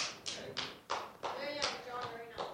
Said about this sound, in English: I am humbled by that applause.